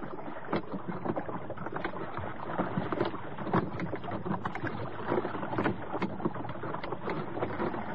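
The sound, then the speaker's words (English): A dinghy being rowed on a river toward an old light boat in the middle, oars dipping and splashing in a steady rhythm over continuous sloshing and lapping, with no voices. “It's a good job it was the sort of church that had a dinghy tied up against it.”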